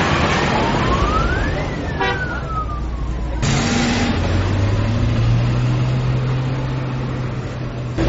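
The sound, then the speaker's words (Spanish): Steady street traffic with a car engine rumbling past, a low drone swelling midway, while a faint rising and falling whine sounds early on. No one speaks. “Hay bastante todavía carro.”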